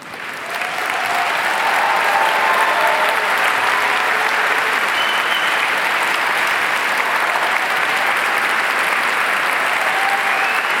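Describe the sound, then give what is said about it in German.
An audience at a science slam breaks into loud, dense applause that swells within the first second and then holds steady as a continuous wash of clapping for about ten seconds, with no voices standing out. “dein Applaus, deine Bakterien.”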